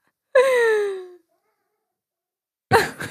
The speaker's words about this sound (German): Ich höre Katzen miauen, ganz fürchterlich. Und ich suche, wo die weinen. Eben ist eine aus dem Zimmer gesprungen, das habe ich gesehen.